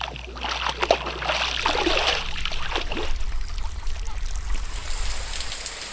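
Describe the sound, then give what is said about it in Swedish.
Water sloshes and splashes continuously for several seconds, with a steady low rumble underneath and scattered bright droplet sounds, like moving water around a small boat. No one speaks. “Vatten däremot, det blir det gott om idag. Ett element med många ljud.”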